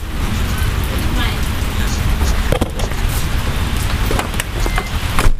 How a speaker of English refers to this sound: Oh, it's raining.